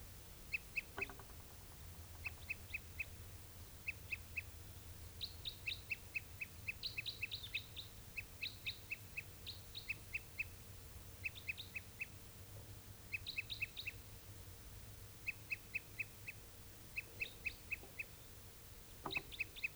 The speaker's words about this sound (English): And a tuper, this is one of the tupers. I think this was also the bird that was giving song before.